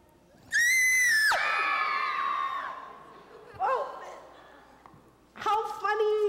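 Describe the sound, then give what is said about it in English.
A group of voices in a church lets out a loud, sustained scream together, fading into a brief shriek, then another burst of screaming starts up near the end. “Okay, if I scream, then you have to scream.”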